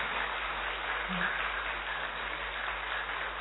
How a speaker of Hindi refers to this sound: हाँ सब मधुबन निवासी है तो खुशी है भाई, खुद के लिए जोरदार ताली बजाओ थोड़ा अच्छे से अच्छे से।